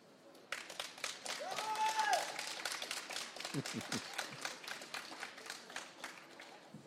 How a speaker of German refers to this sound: Den Applaus war schön.